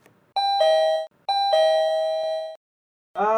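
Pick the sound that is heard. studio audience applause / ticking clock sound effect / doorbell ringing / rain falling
doorbell ringing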